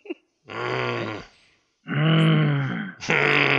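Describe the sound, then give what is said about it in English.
A person imitates a growl three times in loud, raspy vocal bursts, each low and rumbling with harmonic strain, separated by short pauses. “Do you have any growl? Got a few growls in for you.”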